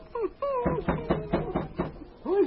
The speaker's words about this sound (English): He stopped his team, and with his lead dog King at his heels, knocked at the door that someone had set straight on his hinges.